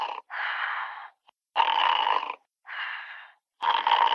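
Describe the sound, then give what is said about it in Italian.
Steady, rhythmic snoring in the background of an answered phone call, alternating rasping inhales and exhales about five times in four seconds, sounding thin and tinny through the telephone line, with no talking. “Forse tuo cugino sarebbe davvero capace di ronfare per sempre.”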